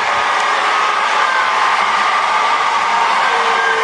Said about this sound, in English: graduating students at historically black Bethune-Cookman University in Daytona Beach, Florida, vigorously booed Education Secretary Betsy DeVos as she gave a commencement address on Wednesday.